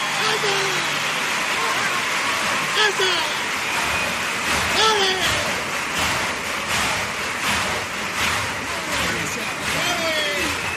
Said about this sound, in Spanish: Bueno, aplaudidísima esta presentación de Los Trastos.